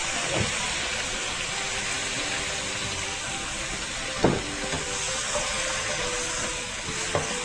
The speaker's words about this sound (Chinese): 好，好，在这个锅边让这个酱油这样子哦，起一点泡沫的时候呢，它这个酱油的香味就出来了，这样子就可以了。